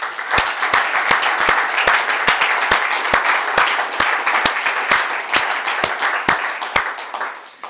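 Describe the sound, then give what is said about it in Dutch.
An audience applauds steadily for several seconds, many hands clapping in a dense, sustained burst with a few sharper claps standing out, loud, with no talking. “En dames en heren, dat vind ik een dik applaus waard.”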